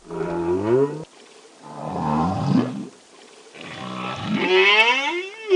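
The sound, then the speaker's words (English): Three long, moaning songs from male whales recorded in the waters off New York City, each rising and bending in pitch with rich harmonic tones, separated by short pauses, the last one swooping upward into a higher wail. “These are the songs of males, and most of the songs that they're singing are, "Hey baby, I'm out here, I'm cool, let's party."”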